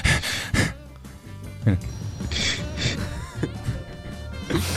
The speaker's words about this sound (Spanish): Pausa, oye, no, oye. ¿Qué fue esa respiración al principio?